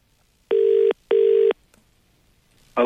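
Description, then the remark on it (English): A phone line ringing after a number is punched in to call someone: two steady, buzzy mid-pitched ring tones of equal length with a short gap between them, followed by a faint click and then a new sound starting at the end. “Let's give him a call and have a chat with him, shall we? Punch it in, sir.”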